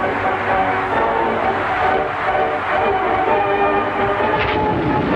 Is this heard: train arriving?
yes